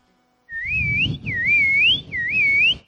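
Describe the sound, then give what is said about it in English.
A loud, piercing human whistle used to call guinea pigs, repeated three times in rising, warbling phrases, each lasting about half a second, over a low rumbling background, with no talking. “this whistle is a whistle for guinea pigs.”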